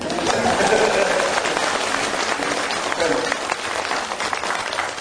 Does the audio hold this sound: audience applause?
yes